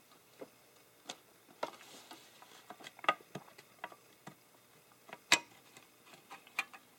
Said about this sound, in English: So why don't we open up the typewriter?